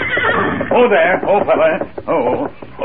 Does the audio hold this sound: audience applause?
no